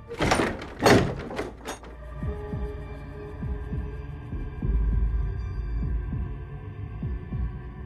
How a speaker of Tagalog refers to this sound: Dahil doon ay nagtatakbo ako pabalik sa ilalim ng silong at mabilis na ikinandado ang pintuan noon upang hindi ako mahuli ng mga bisita ni Lola.